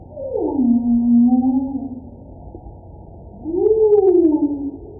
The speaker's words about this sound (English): I think the most common sounds that we are hearing are from humpback whales.